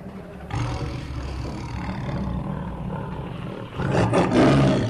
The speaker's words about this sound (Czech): Nezaplašilo vás varovné vrčení tygra?